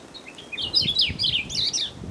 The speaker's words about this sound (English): Try to keep your eyes on it. If you can see the bird through the binoculars while it makes the sound, now it's really gonna click for you.